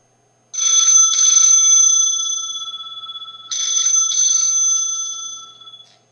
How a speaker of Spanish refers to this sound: Suena el teléfono.